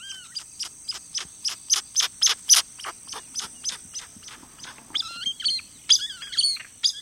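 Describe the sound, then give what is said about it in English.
A rapid series of sharp, high whistling calls from an ani, a bird with a large, laterally flattened bill, about fifteen bright notes in steady rhythm, followed by squeakier, slurred chirps, clear, with no talking. “The Ani's large, laterally flattened bill spits out these sharp, high whistles, slurred whinings, and various squeaks, pips, squeals, and growls.”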